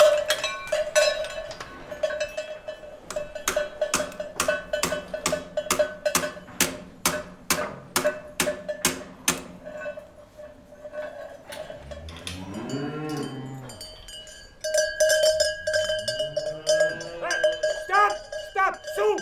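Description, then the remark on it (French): Cowbells clang in a steady, rhythmic jangle as cattle move along, joined later by loud, drawn-out moos, with the bells continuing underneath. The cows are setting out for the alpine pastures on their first day out, at the Brunet farm in the Hautes-Alpes, France, on 11 May 2022. “C'est le premier jour de la sortie des vaches. Elles partent pour les alpages. C'est le jour des sonnailles.”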